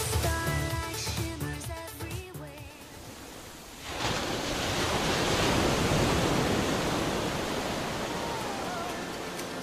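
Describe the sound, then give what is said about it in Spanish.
A few seconds of music give way to the steady, broad rushing roar of ocean waves washing onto shore, swelling gently and holding fairly loud with no voices. “El sol, la arena y el mar son los principales ingredientes para pasar lo increíble en esta época del año.”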